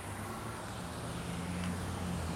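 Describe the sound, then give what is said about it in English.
Steady roar of street traffic at the corner of Dufferin and Bloor, with low engine rumble, cars passing continuously, a broad even wash of road noise with no clear breaks. “I could theoretically cross because I can hear the traffic,”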